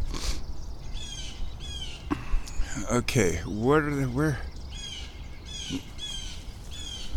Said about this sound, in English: I hear little birds freaking out. I hear downy woodpeckers freaking out. I hear little finches.